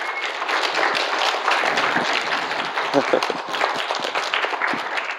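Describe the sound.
A church audience, kids among them, claps in steady, dense applause to thank their pastor at River of Hope, holding an even loudness for about five seconds, with scattered voices and calls mixed into the clapping.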